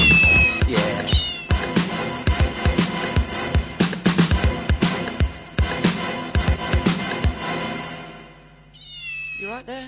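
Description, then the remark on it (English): A cat sitting in someone's lap meows over loud, busy rhythmic background noise, and a clearer rising meow comes near the end after the clatter fades. “Poor cat. Keep it in a cupboard all month, just let it out for the show.”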